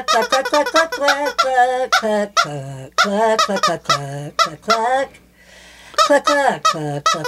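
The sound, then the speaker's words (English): A woman's voice imitates a chicken's clucking in a rapid series of short, squeaky, pitch-sliding bursts, loud, with a brief pause before a final flurry. “Cluck, cluck, cluck, cluck, cluck.”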